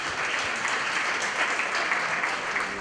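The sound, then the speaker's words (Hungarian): Steady audience applause welcoming a speaker before a talk on wellness and fitness, many hands clapping in a dense, continuous wash at an even loudness for a few seconds, with no voices over it. “Hallgassuk őt, és köszöntsük egy tapsal szeretet!”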